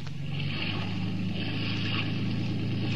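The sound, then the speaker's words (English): A boat engine drones steadily on the water during a Harbor Police chase of Dutch Eddie's gray boat, its low hum constant throughout, mixed with rushing wind and splashing spray. No voices are heard. “You in the gray boat, heave to and submit the search.”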